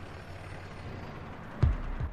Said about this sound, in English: A pickup truck pulls up outside a building that resembles an aircraft hangar.